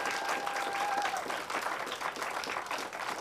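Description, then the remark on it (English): An audience in Madison applauds Veterans for Peace, clapping steadily: a dense, sustained wash of many hands at an even loudness, with a brief high whistle-like tone sounding over it in the first second. “Again, I know you applauded initially, but please let all the Vets for Peace know that we value what they have done.”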